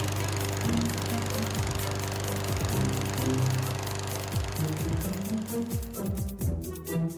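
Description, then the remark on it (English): A small gas self-propelled lawnmower, tied by rope to a stake, runs steadily and loudly mowing grass: a constant rattling drone with some clanks and shifts in pitch near the end. No voices are heard. “First, get yourself a stake, some rope, and a self-propelled lawnmower. Tie up your lawnmower. Fire her up. Let her rip.”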